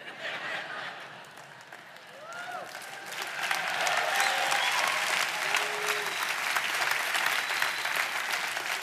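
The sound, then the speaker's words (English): An audience claps steadily during a church sermon. The applause is moderate at first, then swells after a few seconds into a fuller, sustained ovation, with a few voices calling out over the clapping. “Don't clap too long, I can't hold my breath that long.”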